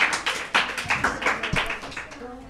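A short burst of applause for a correct answer in a football quiz, a handful of people clapping in quick, slightly uneven rhythm, fairly loud and fading toward the end, with a faint voice underneath.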